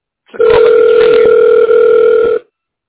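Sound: telephone ringing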